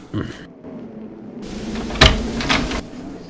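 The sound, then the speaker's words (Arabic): The door of a house is unlatched and swung open with a sharp click followed by a scraping creak, with faint voices murmuring beneath. “أنا قادم. هاي هاي هاي باب الدار، سأفتح لك الباب.”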